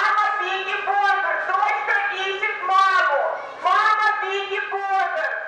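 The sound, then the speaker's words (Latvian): A loudspeaker announcement in a crowded train station: one amplified voice speaks steadily and fairly loudly for several seconds, with a slightly thin, public-address tone, announcing that a child in the crowd has lost its mother. “Sarunu pārtrauc paziņojums skaļrunī, ka pūlī bērns pazaudējis māti.”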